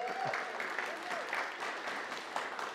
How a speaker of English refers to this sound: Yes, of course, I say those things to get an applause. So thank you for that.